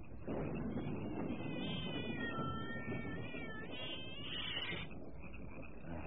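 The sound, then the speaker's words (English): A cat lets out a couple of long, drawn-out meows, clear, over a steady background of rumbling noise; no one speaks. “Cat. What do you want, Cat?”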